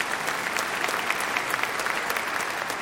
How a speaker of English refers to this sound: Now, yeah, you can clap for God.